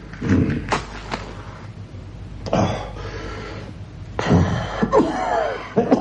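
A man with bronchitis coughs repeatedly in harsh, throaty bursts, several short fits spread across a few seconds with brief pauses between, fairly loud, with no talking.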